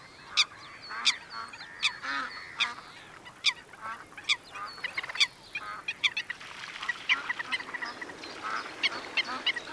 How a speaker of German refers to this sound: Fiepend, sich ein wenig aufplusternd, kommt ein kleines schwarzes Blässhuhn mit weißem Schnäbelchen aus dem Schilf geschwommen und mischt sich unter die Enten.